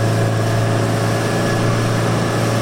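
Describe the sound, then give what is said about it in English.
A motorboat engine drones loudly and steadily, a constant low hum with a broad wash of noise over it, holding level without pauses as the boat cuts across the wake of an RNLI lifeboat and bumps; no one speaks. “And we are just cutting right across their wake now, which is making our boat just bump a little bit more.”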